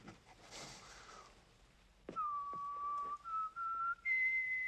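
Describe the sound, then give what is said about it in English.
A person whistles a short, rising tune, a few clear sustained notes stepping higher, after a soft breathy sniff and a couple of faint clicks. “whistles.”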